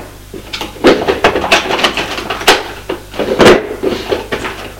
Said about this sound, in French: Ouvre tous les tiroirs.